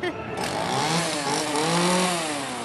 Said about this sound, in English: And then we have regular chainsaws that do run, but we fix the blades so they won't cut or hurt anybody.